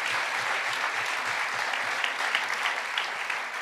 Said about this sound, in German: Komm mal nach vorne. Ein Applaus für den jungen Herrn mit der Mütze. Ersten Freiwilligen.